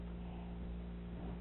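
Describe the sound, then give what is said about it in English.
A tractor engine runs steadily, its low, droning rumble holding constant and fairly loud throughout, with no voices and no pauses or changes in pitch. “She was, I told her when you were on the tractor to be conscious of the sound.”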